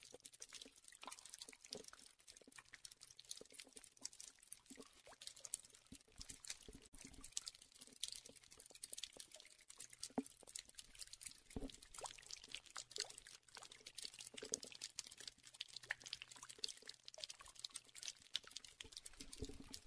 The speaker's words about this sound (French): D'où ça vient la grande rivière qui sort de temps en temps de la grotte. Et on se met tous en silence et on va écouter le bruit de l'eau.